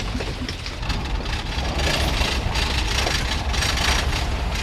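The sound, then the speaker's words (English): A truck engine idles steadily at Prairie Portage, a mechanical portage in the Boundary Waters where rigs are loaded on a trailer and hauled over a half-mile gravel road between Sucker Lake and Basswood Lake; a continuous low rumble with a rough, hissing mechanical noise layered on top and no talking. “to have his rig loaded up on a trailer and hauled over the half-mile winding gravel road that separates Sucker Lake from Basswood, a sprawling border lake.”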